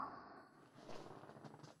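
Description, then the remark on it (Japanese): A chair backrest is adjusted, with a short run of soft creaks and muffled knocks as the mechanism shifts, fairly quiet and with no one talking. “ではまた椅子を。よいしょっと。背もたれも。”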